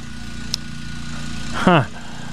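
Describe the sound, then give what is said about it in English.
A groundskeeper's lawn mower engine drones steadily at a practice field, a low continuous hum with a brief click early on and a short burst of voice near the end. “And here comes the lawnmower. Give me the ambiance here.”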